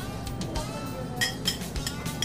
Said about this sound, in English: She put down placemats and silverware plate.